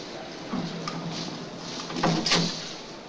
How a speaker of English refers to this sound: The doors open and the stretcher bearers jiggle him out of the lift.